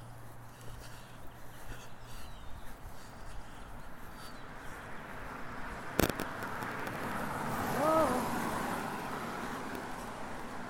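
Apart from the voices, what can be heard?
car passing on street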